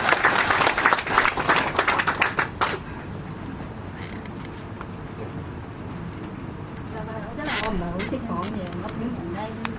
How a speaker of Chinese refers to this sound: 咁其實事不宜遲，俾啲掌聲佢出嚟聽下啦嘛。